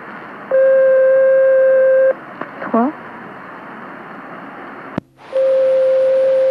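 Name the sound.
telephone ringing unanswered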